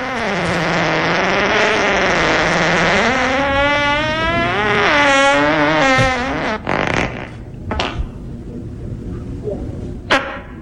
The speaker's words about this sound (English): All right, stepbrother's fart.